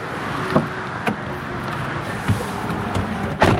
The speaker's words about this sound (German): Noch bevor der Markt zu Ende ist, saust bereits der Reinigungswagen der Stadtwerke am Stand vorbei. Die heißen hier Gelsendienste.